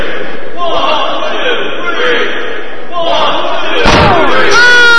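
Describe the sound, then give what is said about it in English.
A single sharp metallic crack of a steel chair striking the back of wrestler Jack Craven's head rings out near the end, over a loud, roaring arena crowd that swells right after the impact. “Oh, chair shot to the back of Jack Craven's head.”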